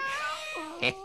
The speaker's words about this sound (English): Come on now, be a nice little pussycat. Oh, you be a feisty one, you be.